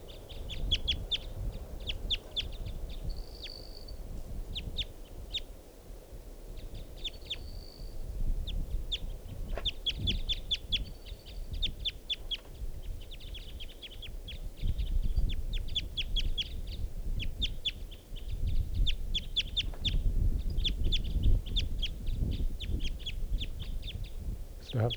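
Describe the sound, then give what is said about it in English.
Wild birds, a male and a female, call throughout, with rapid bursts of sharp, high-pitched chips and clucks and a few brief whistled notes, the two birds seemingly trading calls over a steady low rumble. “And that's the male calling there. Recording. Wild bird. That's the female.”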